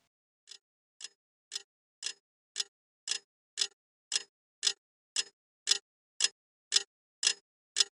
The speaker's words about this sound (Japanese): 部屋の中の物音は、安っぽい目覚まし時計の針の音だけだった。